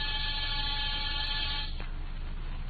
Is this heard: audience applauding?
no